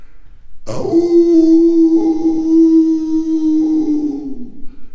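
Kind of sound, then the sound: animal, wolf howling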